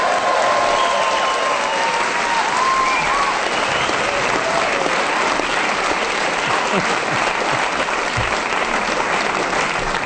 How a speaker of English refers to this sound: A resounding round of applause.